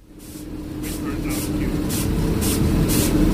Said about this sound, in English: We're travelling in the back cab of our Class 37, 37175, on a return trip from Bowness to Manuel. There's a locomotive on each end of the trains today.